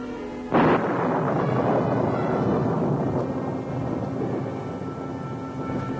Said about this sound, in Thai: บัดนี้สายฟ้าแลบจากความพิโรธของพระเจ้าพุ่งตรงมายังกรุงเยรูซาเล็ม